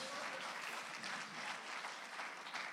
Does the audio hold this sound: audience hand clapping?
yes